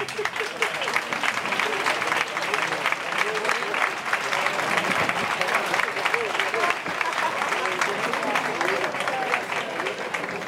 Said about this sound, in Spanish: Le damos un aplauso.